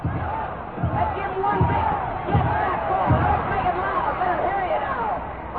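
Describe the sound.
A large stadium crowd, the Wisconsin Badger cheering section at a football game against Southern California, chants in unison, roughly one surging shout per second (a repeated "go, go"), over a dense, steady roar of voices heard from within the stands.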